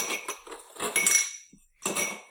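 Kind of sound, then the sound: household object, beer glasses clinking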